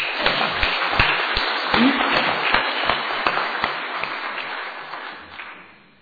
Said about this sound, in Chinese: 我们再一次来鼓掌，把荣耀归给神。